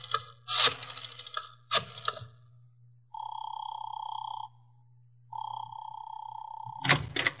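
A telephone handset clatters as it's picked up, followed by two long, steady electronic tones like a dial tone separated by a pause, then another sharp rattle of the receiver.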